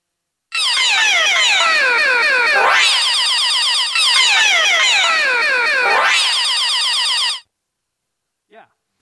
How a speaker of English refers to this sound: That's me yelling. I mean, it's obviously not that high-pitched. It's played through the sampler, so it's pitched up like 10 octaves, maybe 4, and I think it's down 1 in the first sample.